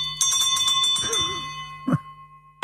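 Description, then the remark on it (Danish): A hand bell rung from the chairman's seat to open a meeting, in a quick flurry of bright clangs, its tone ringing on between strikes, followed after a short pause by a couple more sharp rings. Fairly loud. The bell was given by Helle Dein. “Mødet er åbnet. Ja, jeg har fået den her klokke af Helle Dein.”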